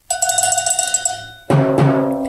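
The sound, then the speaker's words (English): A cowbell is struck by radio host Michael Savage on The Savage Nation in a quick run of bright metallic clanks, then hit twice more, harder and louder, each strike leaving a ringing tone. No one speaks. “Wait, well, let me hit the bell here. I have the cowbell.”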